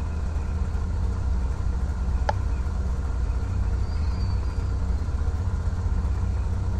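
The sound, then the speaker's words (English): A steady, low engine drone from an aircraft in the FSX flight simulator hums continuously at a constant level as the plane taxis, the engine slowing when it turns toward a new waypoint, with a single brief click partway through and no voices. “Every time the engine slowed down a bit, that means that it's, you know, turning and going to a new waypoint, almost kind of like a taxiway, but FSX Pilot can't do the actual taxiways.”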